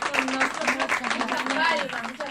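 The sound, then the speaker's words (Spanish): An audience applauds steadily for a couple of seconds, a dense patter of many hands clapping at an even loudness, with voices calling out and talking over the clapping. “Vamos a aplaudirla.”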